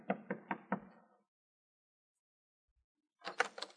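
Four firm, evenly spaced knocks on a door ring out close by, followed by a short silence and then a second, quicker cluster of raps.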